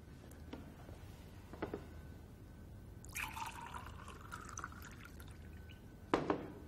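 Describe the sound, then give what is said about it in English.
Water pours into a glass for a couple of seconds at a court hearing, a steady splashing stream, set between a few light clinks and taps of glassware. “I'd like a glass of water, though.”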